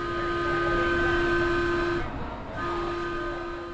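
A Metro light rail train runs along its tracks on an old freight rail line with a steady electric whine and rumbling noise, easing briefly midway before resuming, fairly loud with no voices.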